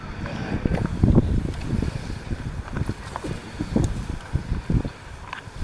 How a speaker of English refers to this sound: A little chilly, a little windy, but it could be a lot worse.